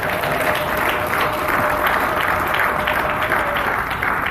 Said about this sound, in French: Ceux qui sont les véritables enfants de Dieu, est-ce qu'on peut leur donner une bonne main d'acclamation ce matin?